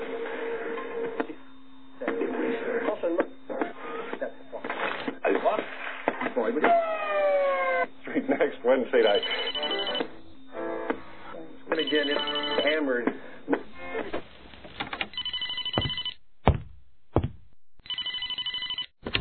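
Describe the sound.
Television sound with voices and music plays in an apartment, then a telephone rings in a few sharp, repeated bursts near the end, loud against the background.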